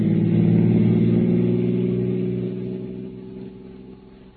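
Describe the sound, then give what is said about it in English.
A car engine hums steadily with strong low harmonic tones, loud at first and gradually fading and slowing as if the vehicle is decelerating. No voices are heard. “In a minute, I'll stop the car and let you know what is yours.”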